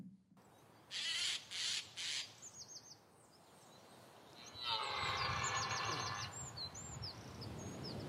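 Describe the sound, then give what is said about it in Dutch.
Birds chirping and singing: three loud, harsh calls in quick succession, then a steady stream of quick high chirps and a dense burst of chattering song, with no voices. “Nou, het is niet alleen vogelen, denk ik.”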